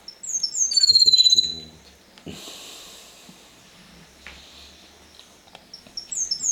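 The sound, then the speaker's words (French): A small pet bird chirps in a quick burst of bright, high calls near the start, then goes quiet amid faint rustling before a few more sharp chirps return at the end. “Je préfère tout jeter, garder mon oiseau.”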